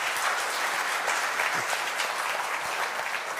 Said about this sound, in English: I just want to recognize how amazing the teachings have been this summer from some of our own stepping up here. Can you just give them a round of applause?